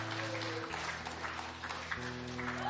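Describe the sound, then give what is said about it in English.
An audience claps and hollers in a steady, dense wash of crowd noise, with sustained low musical tones holding underneath throughout. “We may be clapping, we may be hollering in here.”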